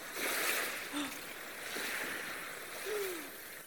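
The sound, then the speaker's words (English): A steady wash of surging water and crashing waves fills the scene, rising and falling in a few swells, with faint low murmurs drifting underneath the broad rushing noise. “Wow, big sister, you made the water look like mermaids.”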